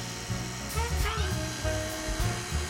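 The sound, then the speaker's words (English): An electric kitchen mixer runs steadily as evaporated milk is poured into the vanilla mixture, its motor whirring at a continuous high whine that wavers slightly in pitch, with low thumps and rumbles underneath throughout. “Pour that in while it's mixing.”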